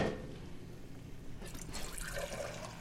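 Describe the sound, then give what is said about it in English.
About a quart of water pours steadily into a cooking pot of turnips, chopped onions and ground rice for about three seconds, a continuous splashing rush that brightens and grows a little fuller partway through. No one speaks. “So how much water are you adding? I'm adding about a quart, but I always start with less than what I think I need, so I can end up adjusting the consistency at the end with more water.”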